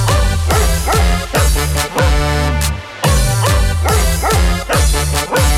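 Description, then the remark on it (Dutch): A Keeshond named Kees barks loudly in a rapid, steady series of sharp yaps, about two barks per second with only brief pauses, and no voices. “Mijn hond, dat is een Keeshond.”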